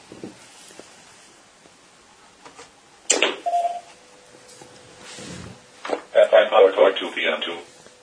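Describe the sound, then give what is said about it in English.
A sharp switch click as a 12 volt power supply is switched on, then short electronic beeps and a faint steady hum from the power supply as radios start up, followed by a louder burst of chirpy startup tones; the power supply sits about 6 feet away on the left. “So the first thing I would do is reach over and turn on my 12 volt PSU, and you'll hear my hand pods start up.”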